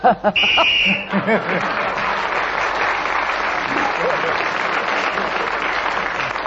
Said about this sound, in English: at the end of that round, you've got 2 points, because you got one for speaking as the whistle went.